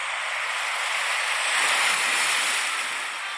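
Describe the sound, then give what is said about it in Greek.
Steady surf wash from the sea, a broad hissing roar of waves that swells gently in the middle and eases off, with no voices. “Λοιπόν, υπό τους ήχους αυτούς της ομίχλης και των πλοίων, της θάλασσας και των γλαροπουλιών. Ναι, και των κυμάτων.”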